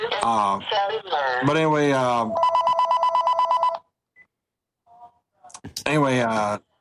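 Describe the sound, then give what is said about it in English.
A mobile phone rings with a rapid, pulsing electronic ringtone at a steady mid pitch for about a second and a half, cutting in after someone talks; speech resumes after a short pause. “And of course, I'm getting a phone call right now.”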